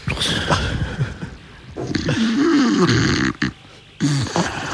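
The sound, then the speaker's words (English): A voice imitates a person snoring during a car ride on the motorway from Lisbon: rough, rattling throaty breaths, then a long drawn-out snore whose pitch wavers up and down, a short pause, and one more brief snort. “I didn't know I was snoring on the way back.”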